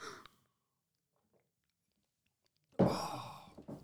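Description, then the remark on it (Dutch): A brief sip of water from a glass, then a pause of near silence before a breathy exhale that trails off slowly. No talking. “We moeten ook een keer een slok drinken.”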